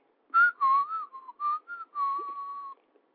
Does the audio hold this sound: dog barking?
no